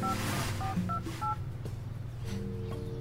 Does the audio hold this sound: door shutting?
no